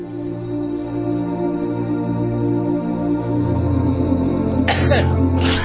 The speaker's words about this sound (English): Sorry. Someone had to give a revolting dry cough, which, by the way, is the first sign of... coronavirus.